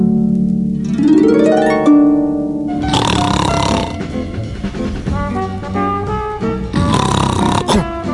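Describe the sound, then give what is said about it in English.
Loud, exaggerated snoring: a rising, whistling tone gives way to two long, rough, rattling snores with a brief lull between them. No one speaks. “What? I must have dozed off.”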